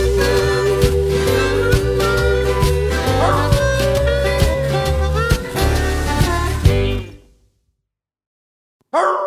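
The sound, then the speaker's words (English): A bloodhound-like howl and yips ring out over a busy, rhythmic blues band with thumping bass, before everything cuts to silence and a brief burst returns at the very end. “The blubbering blues have him howling this tune out.”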